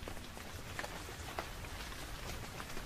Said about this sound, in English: But a short time after breakfast, it started to rain.